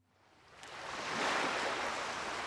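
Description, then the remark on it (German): Ocean surf rushes in, a broad hissing roar that swells steadily as a wave breaks and washes toward the shore, then holds at a full, loud wash. “Die Wellen rauschen und tosen und stürzen zum Ufer heran.”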